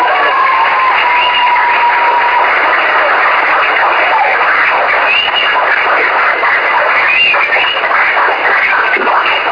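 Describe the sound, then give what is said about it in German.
A class of students claps loudly and steadily with some foot stamping, a dense roar of applause that stays at full volume for the whole stretch without any talking. “Und dafür würde ich die Klasse bitten, jetzt einmal richtig laut zu sein mit dem Applaus, mit dem Stamm.”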